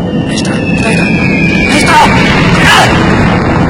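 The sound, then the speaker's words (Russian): Loud, rumbling explosions among the anchored warships of the American fleet at 7:53 on a Sunday morning, including exploding powder magazines on the Arizona, fill the whole stretch as a dense, continuous roar, with heavier booming bursts swelling up about halfway through and again shortly after. “Трохот взрывов обрывает звуки музыки,”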